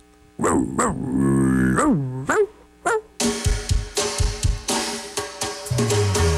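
A dog growls and barks up close in a few drawn-out, sliding vocal bursts, then a driving band with drums kicks in and carries on loudly.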